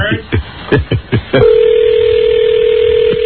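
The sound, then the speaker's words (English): A telephone being dialed: a quick series of short keypad tones, about five beeps in rapid succession, followed by a steady, continuous dial-like tone that holds for nearly two seconds over faint background noise. “See, I'm always a step behind because I got to dial the phone.”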